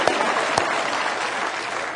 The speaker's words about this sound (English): Yeah, that's worth clapping about.